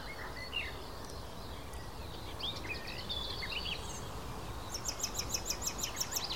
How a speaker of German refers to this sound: Das klang auf wie eine aufliegende Amsel so ein bisschen.